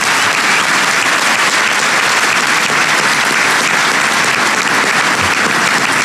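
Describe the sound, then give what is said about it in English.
A large audience in Springfield applauds Dick Durbin steadily, a dense wash of clapping that stays loud and even for about six seconds with no voices breaking through. “So please give Dick Durbin a big round of applause.”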